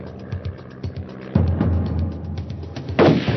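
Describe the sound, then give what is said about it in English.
Several muffled gunshots, fired by Thomas Dillon at a stop sign, crack at irregular intervals over a steady low rumbling hum, the last bang loudest and fullest. No one speaks. “The agents in the car heard shots and feared that Dillon had struck again while under their surveillance.”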